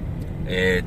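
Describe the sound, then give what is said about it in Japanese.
A car creeps slowly along a street, its low engine rumble steady, with a faint murmur of voices in the background. “確 かにな、ここってさ、 この車みたいにスピードゆっくりの車は少なくともまだお店行く前と判断 され て、そうですね、 明らかに物色してるような動 き。”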